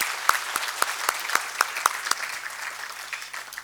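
An audience at a conference claps together to thank its organizers, steady rapid clapping with a few sharper claps standing out, moderately loud and fading slightly toward the end, with no talking.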